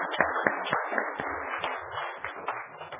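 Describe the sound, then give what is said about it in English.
An audience claps steadily for a few seconds for a speaker's wife, many hands overlapping into a dense, continuous patter with a few sharper claps standing out, with no talking. “I want her to stand up, and I want to give a clap to her.”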